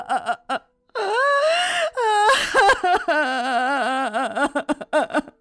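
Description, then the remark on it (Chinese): A woman wails and sobs loudly in grief, long drawn-out cries with a wavering, sliding pitch, broken by short choked sobs at the start and end. “妇人声音悲怆，哭声绕梁。”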